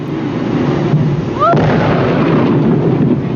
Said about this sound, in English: The whale exploded over an area of 800 feet. Blubber flew in all directions. A large piece totaled a car.